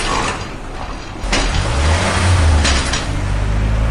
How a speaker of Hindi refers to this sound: और तभी नीलिमा यानी नीलू मिस की नीली I-20 आती दिखाई दी। और जब उन्होंने देखा कि किसी आदमी ने घर का गेट खोला और गाड़ी फुर्र से अंदर समा गई तो दोनों खुशी से उछल पड़े।